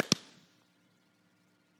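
A single sharp firework explosion cracks loudly, then fades into a short, echoing rumble that dies away to near silence. No voices are heard.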